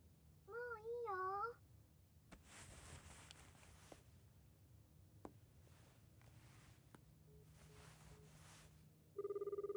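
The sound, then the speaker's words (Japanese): A mobile phone begins ringing loudly near the end as it receives a call, following a brief warbling tone at the start and several seconds of rustling and shuffling noises. “合図するから、そしたら携帯にかけてきて。”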